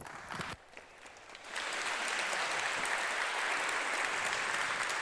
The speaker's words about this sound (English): Let's welcome him with a heartfelt round of applause.